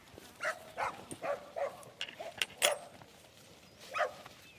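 A female border collie cross heading dog puppy named Em yips and barks in a quick series of short, high-pitched calls with whimpering between them, moderately loud, with no one speaking.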